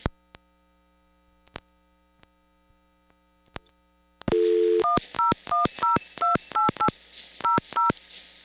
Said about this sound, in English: The other interesting things about these phones is that they will not let you do a PIC code on it. So, for example, if I dial AT&T... Oops.